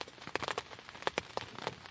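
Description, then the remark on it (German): Rain pattering steadily on a tent in the morning, with irregular sharp taps of individual drops over a soft, continuous hiss. No voices. “Regen prasselt am Morgen gegen das Zelt.”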